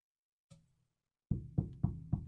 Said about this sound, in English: You get a knock on the door in the middle of the night. You open up that door, and what's staring you in the face?